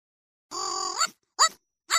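A robot dog gives a synthetic, electronic-sounding bark: one long steady buzzy tone that bends upward, then two short sharp yips, clear with silence between and no talking.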